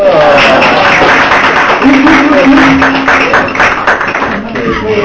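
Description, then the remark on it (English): An audience applauds a teacher loudly, a dense, steady wash of clapping that carries on for several seconds, with faint voices murmuring underneath, then eases slightly toward the end. “And, always, and give him a clap.”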